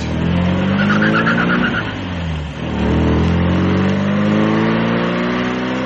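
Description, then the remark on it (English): A loud engine of a homebuilt 90-horsepower hill-climb car revs hard, its pitch climbing, dropping briefly around the midpoint, then climbing again in a rising, rasping roar, with a faint squeal early on and no talking. “What does this beast run on? Rocket fuel? Built it myself. For the hill climbs next year.”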